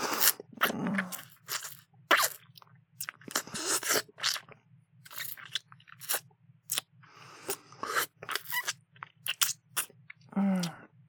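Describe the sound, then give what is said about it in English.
Wet mouth sounds: repeated sucking and slurping in irregular bursts with brief pauses, over a faint steady low hum, with no talking. “What will they think? Hearing all this sucking.”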